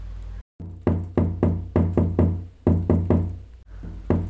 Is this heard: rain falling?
no